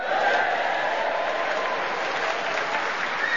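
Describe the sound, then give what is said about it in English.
A large audience at the refurbished King's Theatre in Southsea, Portsmouth, Hampshire, applauds and cheers at the start of a Just a Minute show, a dense, continuous wash of clapping at full volume with a few faint shouts of cheering mixed in, no pauses throughout. “And as you've just realised, we have an enthusiastic Hampshire audience in front of us to cheer us on our way and encourage us as we start the show with Tony Hawks.”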